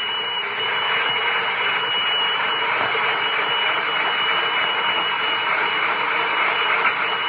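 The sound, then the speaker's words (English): A loud, steady mechanical roar, like a fire engine's motor running, fills the whole stretch without pause, harsh, with no voices over it. “Have we an extra fire engine? Oh, have we?”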